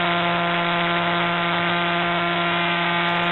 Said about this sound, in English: So this pulsar points towards the Earth. We see this little burst of radio waves, and this one rotates 1.4 times per second. Do you see the knocking?